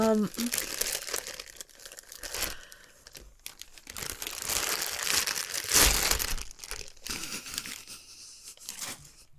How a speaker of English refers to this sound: I'm sorry, I'm gonna take him out of the bag. Thank God he's soft. More plastic bag ASMR.